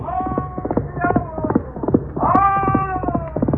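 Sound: horse galloping and neighing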